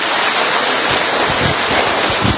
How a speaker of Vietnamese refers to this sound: Một tràng pháo tay thật to để chào mừng tất cả những anh chị em ấy.